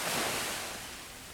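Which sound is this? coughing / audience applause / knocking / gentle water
gentle water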